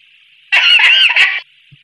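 A chicken lets out one loud, close squawking cluck lasting about a second, with no voices around it and a faint steady hiss in the background.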